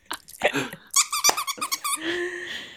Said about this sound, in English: This might be one of the cutest squeakies we've ever had. It's my dog's dog toy. Yeah. It's adorable. Oh, little Finding Nemo.